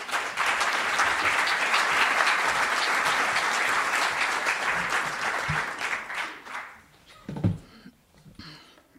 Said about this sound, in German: Und freut sich über einen Applaus.